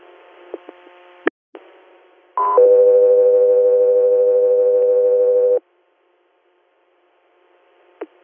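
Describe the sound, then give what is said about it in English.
Radio dispatch alert tones: after a few seconds of hissy radio static and clicks, a brief higher tone leads into a long, steady, loud lower tone, then silence and a final click. “are standing by for tones.”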